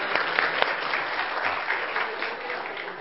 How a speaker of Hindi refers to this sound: देखो तालियां बजाओ भाई,